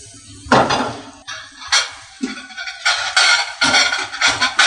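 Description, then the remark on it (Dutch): A plate is pulled out from a stack while cooking asparagus, with several bright clinks and scrapes of dishes knocking together in a quick, irregular series, fairly loud, with no talking. “Pak er even een bord bij.”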